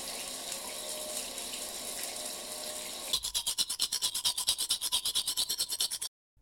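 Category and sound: household object, running shower water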